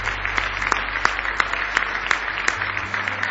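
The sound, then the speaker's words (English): A church audience gives a hand clap of praise to God, a dense wash of applause with sharper claps landing in a steady, fairly quick rhythm. The clapping stays loud and continuous throughout, with no voices standing out. “Give Him one more big hand clap of praise if you love Him tonight.”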